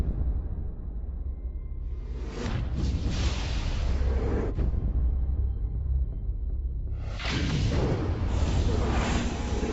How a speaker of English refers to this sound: A huge explosion now, raining debris on all of us. We better get out of the way.